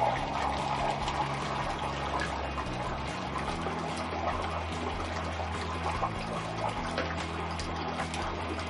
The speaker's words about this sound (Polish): Po wrzuceniu suchego lodu do ciepłej wody obserwujemy, że wydobywa się z niej bardzo duża ilość mgły.